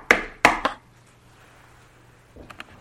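knock on a door

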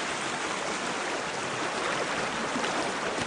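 creek water flowing

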